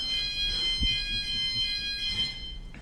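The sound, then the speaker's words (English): A high, shrill fire alarm rings steadily throughout, its tone pulsing slightly in regular waves, with a single dull thump partway through and no talking. “All right, so the fire alarm stops.”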